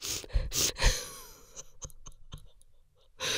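Normal sniffing demonstrated for ASMR: two or three loud, airy nasal sniffs come first, followed by a run of short wet clicks and snuffles. Another strong sniff ends it, with no talking.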